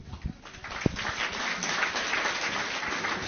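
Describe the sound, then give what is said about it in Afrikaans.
An audience at a book reading breaks into applause, a dense wash of many hands clapping that starts with a few sharp claps and swells into steady, sustained clapping without any talk. “Ja, ek dink dit verdien weer 'n bietjie applous.”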